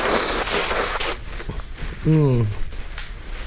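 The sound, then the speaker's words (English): A person with a cold nose blows it in a rough, breathy burst of about a second, followed by shuffling and a short descending vocal grunt. “Oh, I'm gonna... blow my nose, sorry.”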